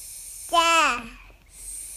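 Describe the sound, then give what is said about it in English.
A 15-month-old girl lets out one short, high-pitched babbling sound that swoops up and then trails downward while looking at a book about animals, heard over a steady background hiss. “That's my 15-month-old daughter.”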